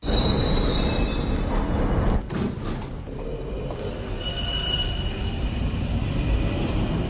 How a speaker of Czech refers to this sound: Brusel, stanice metra Arlua. Jde o hlavní přestupní stanici celého místního metra, ale přesto je už na první pohled neuvěřitelně ošklivá.